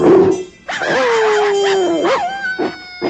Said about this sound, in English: The twilight bark. I'll sound the alert.